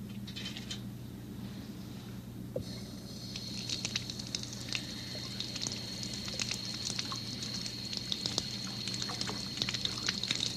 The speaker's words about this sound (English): Now, do you think there'd be one in the bathtub? Okay, let's look. See the water going down? Water goes down the drain. This is a stopper for the drain. That makes the water stay in. And when you take the stopper out, water goes down.